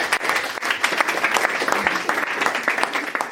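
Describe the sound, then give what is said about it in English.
An audience gives a round of applause for a contestant after the judges give their scores, many hands clapping in a dense, even wash of sound that stays loud throughout without any voices standing out. “Strong, strong stuff there. Round of applause”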